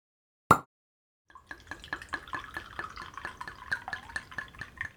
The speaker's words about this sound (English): You'll find a bottle waiting for you on top of the barrel. Help yourself to a glass. Take a moment, pour slowly, and let the sound of the wine set the tone for this experience as you take in the beauty of the landscape.